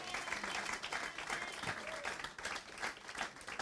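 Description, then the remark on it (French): An audience applauds and acclaims the Lord during a sermon, dense clapping steady throughout with scattered cheers and shouts rising over the crowd noise, sustained at a fairly even loudness. “Acclame encore le Seigneur, maman.”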